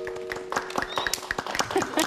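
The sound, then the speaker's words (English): A small group claps for a couple of seconds after someone recites a nursery rhyme, the claps uneven rather than in unison, with faint voices murmuring underneath. “Oh, wow, I think that deserves a little round of applause.”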